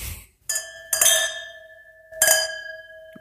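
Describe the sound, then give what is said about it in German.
Wine glasses clink together several times, each strike leaving a bright, sustained ringing tone that fades slowly; fairly loud, with no talking. “Boah, sind das scheiß Gläser, Alter, Digga, das sind richtige Tanzzapfen im Mund, Alter.”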